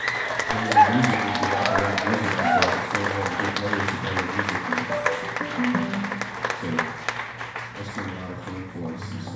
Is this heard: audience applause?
yes